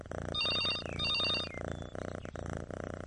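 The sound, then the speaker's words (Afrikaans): A landline telephone rings in two short trilling bursts, loud, over a steady low background of music or room noise. “Die huisfoon lui.”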